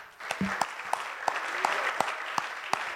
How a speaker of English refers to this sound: Can we give God a hand clap of praise for that?